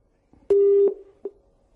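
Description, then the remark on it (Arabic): A steady electronic phone tone sounds for under half a second, then a short click and a brief fainter beep follow, with a quiet hiss of line noise and no voices, as a caller's telephone line is cut off during a call-in television program. “كان الهاتف انقطع يعني عاود الاتصال بالأخ”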